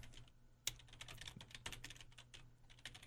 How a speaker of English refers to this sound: Keep typing. Keep going, dude. Come on.